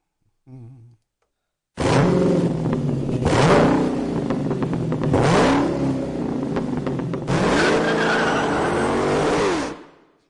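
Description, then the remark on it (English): A stock car engine, straight off the lot, revs loudly and repeatedly, the roar climbing and dropping in pitch over several seconds with a brief tire squeal, no talking. “It's beautiful. That's a stock car off the lot.”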